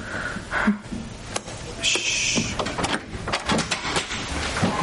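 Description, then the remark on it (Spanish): A young woman unlatches a door and pulls it open from inside, with a series of sharp mechanical clicks and knocks and a brief high creak partway through, over a low background hum. “Valentín y Bruno están ante una puerta. Una joven abre desde dentro.”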